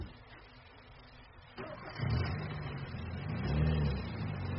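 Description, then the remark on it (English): A man gets into a car parked on a street; its engine turns over and catches, then revs into a loud, steady mid-pitched rumble with rising tones as the car pulls away after a quiet, low hum. “Now he's getting in the car.”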